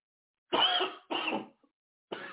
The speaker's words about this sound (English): Excuse me, people. You got a little cough there.